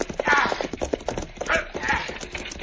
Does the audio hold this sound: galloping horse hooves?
yes